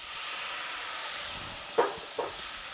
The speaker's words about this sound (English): And it's also starting to sizzle a little bit. All right, away we go now. Take your cup of wine, your white wine, and pour it in.